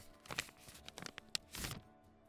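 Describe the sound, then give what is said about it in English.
A sheet of paper, a wedding invitation, slides across a bar top with soft, papery scraping rustles in a few short bursts, quiet, ending in a longer swish. “No, but you're gonna slide me a piece of paper across the bar?”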